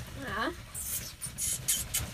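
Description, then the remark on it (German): A brief voice sound gives way to repeated crinkly rustling bursts as a pet scratches with its feet at a plastic bag, irregular with short pauses between scrapes. “macht gerade mit ihren Füßen an, also so eine Plastiktüte zum Rascheln.”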